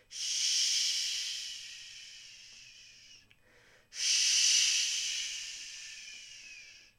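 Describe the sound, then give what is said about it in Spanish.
Tenor and soprano voices imitate the north wind with a breathy, hissing whistled whoosh: two long gusts, each swelling quickly and then slowly fading, separated by a brief pause. No words are spoken. “Empezamos haciendo sonar una especie de silbido, como si fuera el viento.”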